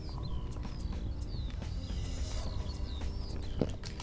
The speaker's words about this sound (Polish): Ptaki ćwierkają w pszenicy.